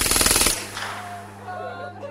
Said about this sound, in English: The armorer walked a long burst from right to left across the double doors. Little points of brightness appeared. Pencils of sunlight stabbed into the gloom like yellow laser beams.